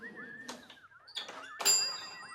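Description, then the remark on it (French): A doorbell rings as someone is at the door, in a few bright chiming strikes over a thin wavering tone, the last ding loudest and ringing on with shimmering overtones as it slowly fades. “Alain, ça sonne dehors.”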